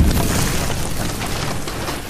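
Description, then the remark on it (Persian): A loud, rumbling explosion of a robot blowing up, with heavy low-end boom that sustains as a dense crackling roar for about two seconds, no voices present. “ربات ترکید.”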